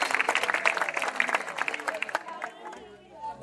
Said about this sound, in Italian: Un forte applauso a questi bellissimi bambini.